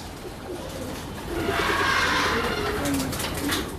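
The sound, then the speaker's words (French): Many pigeons coo together in a dense, murmuring chorus, with wing flutters and scuffling rising in the middle, in a pigeon loft in the suburbs of Taipei, Taiwan. “Vous voyez, j'ai beaucoup, beaucoup de pigeons ici.”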